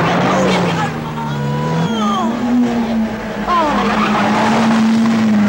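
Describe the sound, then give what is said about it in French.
A car engine roars at steady high revs while tires squeal in several sharp, sliding bursts, loud, as the car is driven hard through turns. “Regardez-moi cette tenue de route. Avec un type comme moi et une voiture comme ça, ben, c'est le maximum.”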